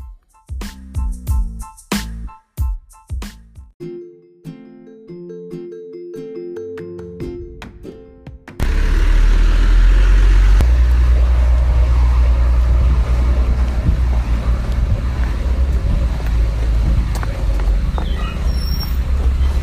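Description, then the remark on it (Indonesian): A short musical intro of plucked notes and percussive hits gives way to the loud, steady low rumble of an environmentally friendly garbage truck engine at Bantar Gebang, Bekasi, running without pause, with no voices over it. The truck carries about 30 carts of waste. “Dia beda ya Pak ya sama truk biasa ya?”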